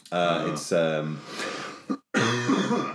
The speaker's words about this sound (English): Sorry. Excellent podcast material here, lots of coughing.